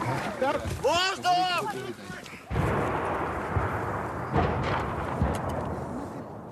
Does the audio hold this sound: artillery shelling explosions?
yes